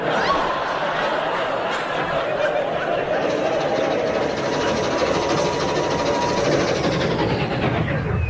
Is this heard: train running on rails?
yes